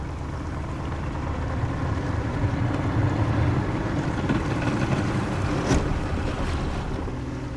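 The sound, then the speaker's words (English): A motorboat carrying researchers heads out to deep water, its low engine drone mixed with rushing wind and splashing waves, a continuous loud wash of noise with no voices. “The boat heads out to deep water.”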